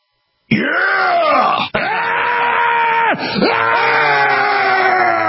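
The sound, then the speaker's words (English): A man screams and yells for freedom, loudly and continuously, his voice rising and falling in long, strained bellows with only brief breaks for breath. No words are spoken. “And what people don't realize is I might not always be screaming and yelling, but when I do, it's for freedom.”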